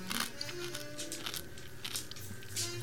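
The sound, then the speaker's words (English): A dog chewing crunchy chips, a steady series of sharp, crackly bites and crunches repeating irregularly over a few seconds, with no talking. “Now that crunch that you just heard was my dog crunching these chips.”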